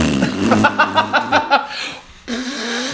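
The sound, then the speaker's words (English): A comic DJ fart horn blares a quick run of buzzy, pulsing honks, pauses briefly, then holds a steady low drone. It is loud, with no clear talking. “That was like my DJ fart horn.”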